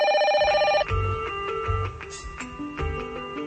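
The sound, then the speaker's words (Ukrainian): A telephone trills with a rapid, warbling ring for under a second for an incoming call, then gives way to a musical passage with steady low thumps. No one speaks. “У працях теми святкування 3 ліпеня, Дня визволення і Дня незалежності і наступне телефонування.”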